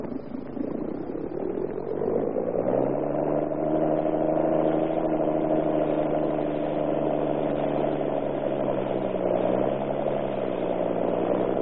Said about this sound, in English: Ship off, Captain. Aye, aye, sir. Get our engine going.